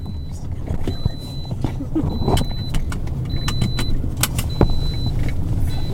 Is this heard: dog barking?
no